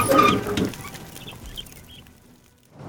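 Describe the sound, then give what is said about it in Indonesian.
Chickens squawk and cluck frantically in a loud burst at the start as fire burns their coop and the smoke thickens, then only faint, scattered chirps follow against a quiet background. “Asap semakin pekat dan ayam-ayam lain berusaha membuka pintu utama.”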